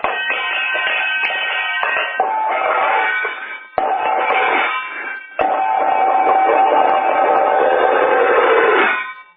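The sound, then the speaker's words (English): A harmonica plays loud, reedy chords over a phone line, with a thin, tinny tone. Sustained notes run in three long phrases separated by brief breaks, with no talking. “Still the harmonica.”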